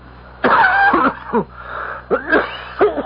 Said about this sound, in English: That's a wicked cough, Professor Valdemar.